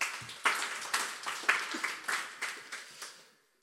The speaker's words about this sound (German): Einen Applaus für die drei.